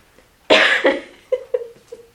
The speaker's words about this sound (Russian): Кашлять захотелось. Зашевелились энергии в бронхах.